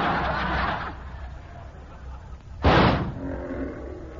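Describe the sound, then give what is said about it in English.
A rough, rumbling lion roar opens the scene, fading into a noisy background before a single loud, sharp gunshot, fired at the lion, cracks out and decays quickly. “I'm going to take a shot at him.”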